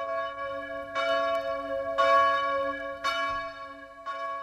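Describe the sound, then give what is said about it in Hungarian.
A church bell in Chicago tolls steadily, calling to common prayer, striking about once a second, four strikes in all, its rich humming overtones ringing on between each blow. It sounds clear, with no voices. “Közös imára hívnak naponta ötször Chicago harangjai.”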